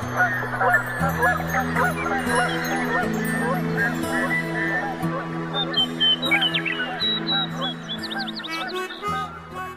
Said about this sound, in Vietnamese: Bỗng một tiếng vịt kêu xé toang im lặng, hàng trăm đôi cánh nhất loạt vỗ. Những con vịt trời hoảng hốt lao lên bầu trời, rồi mất hút ở phía cuối cánh đồng.